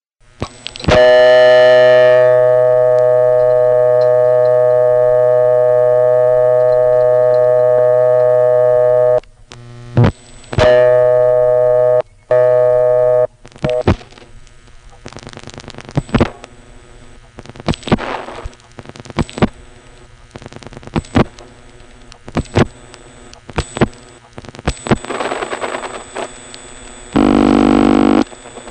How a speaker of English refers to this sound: Finally, here's a local call. Through the callback circuit, again, I'll dial the code for the callback, 20, the last four digits of the number. And then once the conversation begins, I'll dial more digits to get it to superimpose the busy.